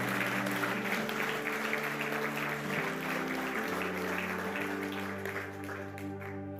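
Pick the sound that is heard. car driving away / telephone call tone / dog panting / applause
applause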